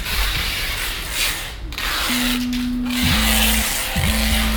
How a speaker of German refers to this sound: Tape hält alles zusammen, was auf die Reise geht. Überall werden Kartons, Taschen und Tüten in grüne Gewebesäcke gepresst und mit Kilometern von hellbraunem Klebeband zu reisefertigen Paketen verklebt. Der Sound der informellen Ökonomie.